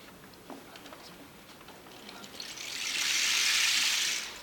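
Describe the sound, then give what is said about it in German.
Faint scattered drips and patters, then a steady hissing rush of heavy thunderstorm rain on leaves swells up loudly and holds before easing off near the end. “Es plätschert und klatscht.”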